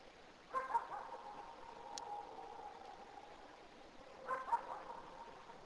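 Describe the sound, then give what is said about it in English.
A dog barks in two short bursts, a couple of yaps near the start and again near the end, faint over a steady low hum like an idling engine. “There's a dog over near there too, barking at it.”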